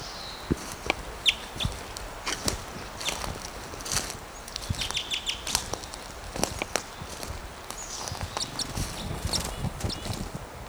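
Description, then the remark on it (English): Sharp, high alarm calls from a male bird being chased by a western tanager ring out in scattered bursts, mixed with clicking, rustling and footstep-like thumps. No one speaks. “Gave some alarm calls, being chased by a western tanager.”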